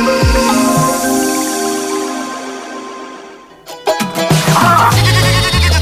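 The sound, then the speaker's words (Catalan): Sheep bleating as they graze out in nature: a long, wavering bleat fades out, then a burst of louder, overlapping bleats follows, with no voices present. “Imagina't vaques i ovelles felices pasturant al mig de la natura, a les serres de Milany, Santa Magdalena i el Puig de Calb, amb totes les garanties de benestar animal.”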